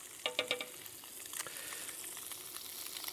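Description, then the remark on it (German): Food sizzles steadily as it browns in a hot frying pan, a continuous crackling hiss with a few sharper pops and spits near the start, moderately quiet, with no voices. “Also es brutzelt jetzt gemütlich vor sich hin und wird jetzt braun werden.”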